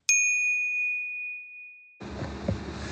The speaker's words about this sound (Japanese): あー、すいません、 すいませんね。 いや、電話がかかって しまった。はい、 ねえ、年前から電話かかってしまった。早くしろって。